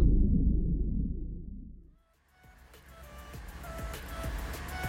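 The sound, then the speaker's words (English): A car engine rumbles low and steady, then drops off into a brief lull before a brighter, hissing road noise rises with scattered clicks and knocks. No one speaks. “Okay, engine's hot. Ready for takeoff.”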